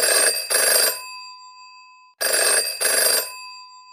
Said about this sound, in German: Und zu guter Letzt hat unser Telefon auch wieder geklingelt mit einem Anruf aus Frankreich